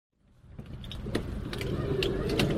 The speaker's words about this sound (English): So we shut the doors. This is as if I'd been shut in a padded wardrobe.